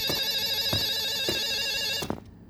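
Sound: telephone ringing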